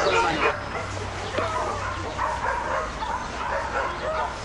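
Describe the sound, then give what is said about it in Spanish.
A dogo dog barks and yips excitedly in quick, repeated bursts, fairly loud, with people's voices murmuring in the background throughout. “Parece que se trata de un perro con carácter, ¿eh?”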